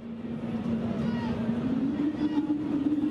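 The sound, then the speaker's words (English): A mysterious low rumbling hum, known as the hum, drones steadily for a few seconds, its pitch creeping slightly upward over a continuous, moderately loud rumble, with no clear speech. Recorded at Tropicana Field in Florida during a baseball game between the Tampa Bay Rays and the Detroit Tigers. “People have reported hearing this mysterious sound across the globe for years. The sound even made its way to a baseball game in Florida.”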